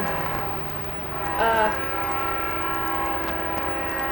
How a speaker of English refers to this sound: Is that a train out here? You pick that up on that.